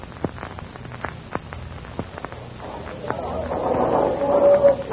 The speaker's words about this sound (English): shots are heard near the harbor entrance. The pirate fleet is returning. Listen.